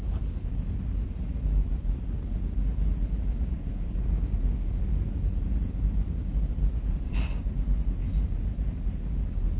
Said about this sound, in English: It's a long train tonight.